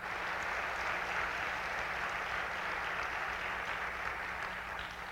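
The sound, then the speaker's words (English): A room full of people claps steadily for several seconds, a dense, even wash of applause with no one speaking over it, a round of applause for the people who came in to decorate the church. “But there were a number of them that did, and I think we ought to give them a round of applause.”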